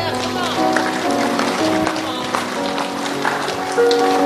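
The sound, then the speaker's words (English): An audience claps for Jesus in a dense, steady patter that carries through the whole clip, mixed with sustained tones of music and voices underneath. “Somebody give Jesus a big hand clap right there.”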